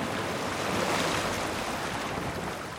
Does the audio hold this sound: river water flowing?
yes